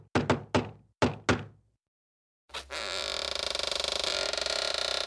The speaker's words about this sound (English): The cheeky tricksters knock on the door.